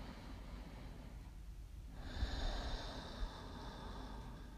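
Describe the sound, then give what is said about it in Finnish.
A slow, deep breath drawn in through the nose and then released as a soft, airy exhale through the mouth to relax, quiet, with no talking. “Hengitä nyt kerran pari oikein syvään nenän kautta sisään ja puhalla suun kautta ulos rentoutuaksesi.”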